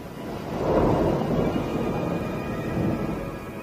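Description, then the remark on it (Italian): A low, rolling rumble of thunder from one of the first storms bringing hints of autumn swells and lingers, steady and broad, with a soft hiss of rain beneath it; no voices. “I primi temporali portano sentori d'autunno.”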